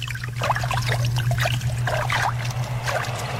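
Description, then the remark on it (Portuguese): Water flows and gurgles steadily, with bubbling splashes rising and falling over a low, constant hum underneath. No one speaks. “Ouça o som das águas.”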